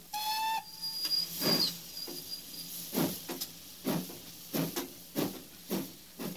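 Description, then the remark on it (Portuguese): A short, shrill train whistle blast opens as a passenger train departs in Italy, followed by a thin high hiss and then a steady, rhythmic series of steam chuffs as the engine gets moving, with no talking. “Vamos ajeitar logo essas bolsas que daqui a pouco o trem parte.”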